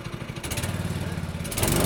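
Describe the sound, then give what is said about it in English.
Small combustion engines of vintage mini race cars sputter and rev up, a steady buzzing drone with rhythmic pulsing that grows louder and rougher near the end; the sound of the Scottsdale Grand Prix in Old Town Scottsdale, the inaugural race of the Vintage Mini Racing Series. “Ladies and gentlemen, start your engines.”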